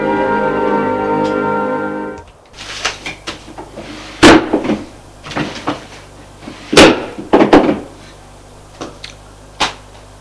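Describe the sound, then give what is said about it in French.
A desk drawer in an office is shut after files are put away in it, with a few sharp wooden bangs and rattles, scattered irregularly after a steady humming tone cuts off. No one speaks. “Le beau-père range ses dossiers et les met dans le tiroir de son bureau.”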